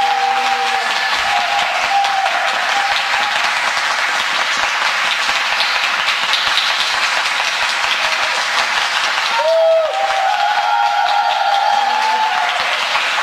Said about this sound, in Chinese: 大家要不要再给柴智老师一个掌声？